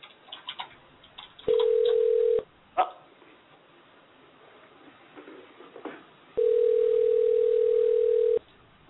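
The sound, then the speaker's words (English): A steady, mid-pitched telephone tone sounds loudly twice, first for about a second and later for two seconds, with brief dialing blips and faint line noise in between. No one speaks. “And we're dialing.”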